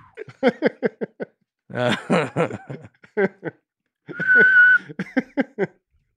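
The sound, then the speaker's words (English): A short, steady whistled note rings out partway through, clear, surrounded by bursts of snickering laughter before and after it. “And when you jumped into the other thing, I'll bring in the whistle.”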